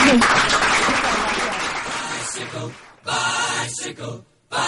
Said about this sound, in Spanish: Muy bien. Un aplauso otra vez.